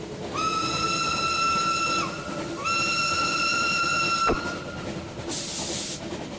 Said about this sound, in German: So schnell kommen wir nie vom Gleis. Ob der uns rechtzeitig sehen wird? Ich versuche, den Zug anzuhalten.